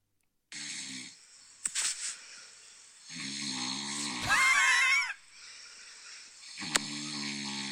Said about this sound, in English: You snore as well. I don't think I snore like this.